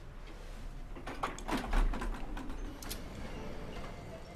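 A door is pushed shut with a cluster of knocking, rattling clicks and a firmer thud in the middle, over a low steady background hum with no one speaking.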